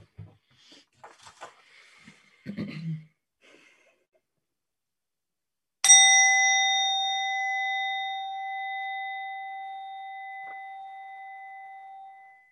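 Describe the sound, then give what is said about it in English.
A single sharp tap on a wine glass produces a bright, pure ring that sustains and slowly fades over several seconds, preceded by faint rustling and soft breathy noises. “Maybe you were at a wedding reception and you did it with a wine glass.”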